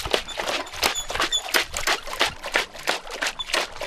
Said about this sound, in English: Loosen the dirt and get the shovel and chuck it on the sieve and probably transfer it onto another sieve and dip that into the water.